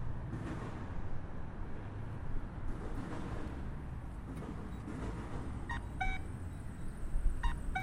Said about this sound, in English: So that chirp that you hear is the audible signal for when you're crossing the intersection from north to south or from south to north.